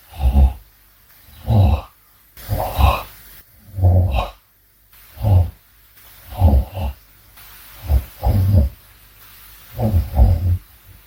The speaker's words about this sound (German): Er schnarcht, ja gut. Das hätte ich mir jetzt schon denken können. Grunz, grunz, grunz. Da ist er aufgewacht bestimmt.